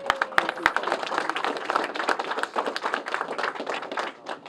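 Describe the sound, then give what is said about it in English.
A crowd applauds the governor of Missouri in a steady, dense wash of overlapping claps that holds for several seconds at moderate loudness, opening with a few sharp, distinct claps before the rest join in. “Let's give our governor a round of applause once again.”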